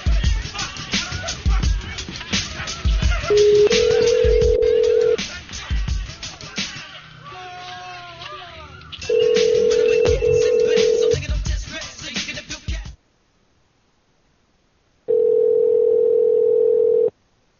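A steady telephone dial tone hums in and out between bursts of dialing and line noise as someone calls a number back, then cuts to silence before the dial tone returns alone at the end.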